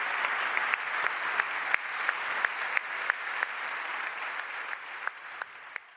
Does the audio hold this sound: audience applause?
yes